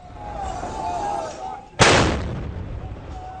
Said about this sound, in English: Sky News captured the sound of gunfire and tanks in the streets of Zawiya.